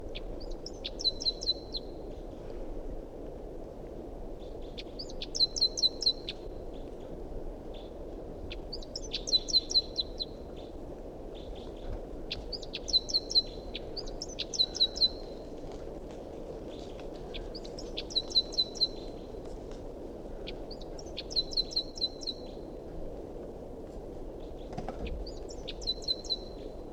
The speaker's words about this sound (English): Recording, this is bird 350 again. 350. Stop. It's recording a wild bird.